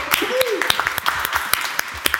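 A short burst of applause from a few people for two people, with sharp, irregular claps over roughly two seconds and a brief rising-then-falling vocal cheer near the start.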